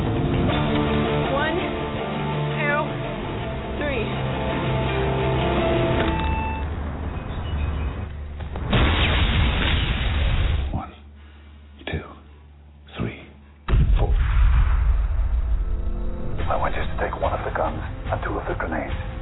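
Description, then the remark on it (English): A grenade explosion in a film scene: a loud, broad blast of about two seconds bursts out after tense dialogue and music, followed by a brief hush with scattered thuds before the noise resumes. “Then toss it as far as you can. Keep the phone on so I can hear the explosion.”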